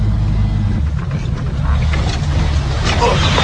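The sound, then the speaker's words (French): A small Soviet off-road jeep drives over rough ground, its engine a loud, steady rumble with rattling and jolting noises throughout. “Alors, nous, encore une fois, c'est avec notre petite Jeep soviétique.”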